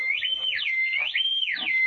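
signal or alarm, whistle

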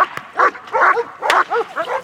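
animal, police dog barking

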